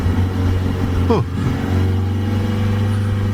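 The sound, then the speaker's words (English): A car engine hums steadily, with a quick pitch sweep as it shifts and pulls away onto the road, settling into a constant low drone. “All right, let's get on the road.”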